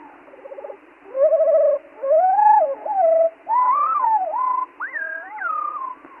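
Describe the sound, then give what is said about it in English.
Birdsong slowed to one-third of its real speed, made of a series of drawn-out, sliding whistled phrases, the bird producing two separate tones at the same time that audibly overlap, heard clearly and alone with short gaps between phrases. “All right, now let's play it slowed down to one-third of its real speed, and now you can actually tell that it's playing a duet with itself.”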